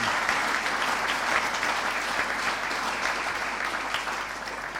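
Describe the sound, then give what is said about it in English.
An audience applauds the staff, clapping steadily for about five seconds, a dense, even patter of many hands at a consistent loudness with no voices rising above it. “Round of applause to the staff as well.”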